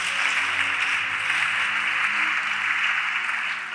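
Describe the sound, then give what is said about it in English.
A church audience claps for Jesus during a sermon, a dense, even wash of many hands with no pauses, fairly loud and sustained from start to finish, with no voices over it. “Clap for Jesus.”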